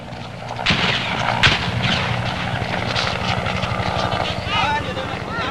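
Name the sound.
helicopter lifting off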